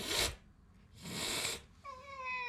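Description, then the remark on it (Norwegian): Two sharp, breathy hisses from a small cat, the second longer, followed by a short, thin meow, all fairly loud with no talking. “Så jeg blir jo, altså går inn i et bankbygg, så blir jo jeg, så ser jo bankfunksjonærene på meg og freser som små kattunger.”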